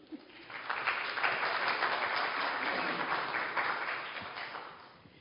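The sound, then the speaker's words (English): A crowd claps steadily after a prayer for about five seconds, a dense rattle of many hands that swells quickly, holds fairly even, then thins slightly toward the end. “And yes, you can clap if you want to.”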